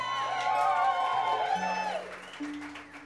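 A crowd cheers loudly with high, sustained whoops over a wash of clapping, the noise fading after about two seconds into scattered hum and murmur.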